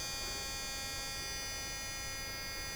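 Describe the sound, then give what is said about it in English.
A steady electric toothbrush running one cycle, set to 2 minutes: a dense buzzing hum layered with high whining tones, holding an even level throughout with no voices. “I can also run one cycle so you can hear the cycle and beep.”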